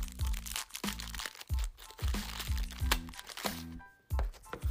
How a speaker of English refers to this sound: Today's crunch is Ritz crackers. So allow me to be enticed by this buttery taste. Do y'all hear that crunch?